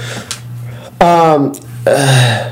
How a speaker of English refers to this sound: wow, what a yawn.